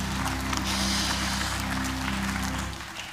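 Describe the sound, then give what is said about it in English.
A crowd gives soft, steady applause for the children, a dense patter of many hands clapping at an even level for about three seconds over a low sustained hum, then tapering off at the end. “A little soft clap right now for the kids.”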